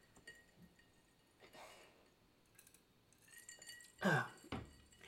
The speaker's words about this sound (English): And give me a second. I'm taking a sip of my drink.